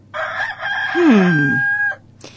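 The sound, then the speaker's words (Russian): A rooster crows once, a loud drawn-out call lasting nearly two seconds with a rising then sustained, slightly falling pitch, ending abruptly, followed by a brief faint rustle. “Через полчаса, в продолжении которых Сенечка не оборачивал назад головы, так как петух приковал все его внимание, возвращается жена и мать с самоварами в руках.”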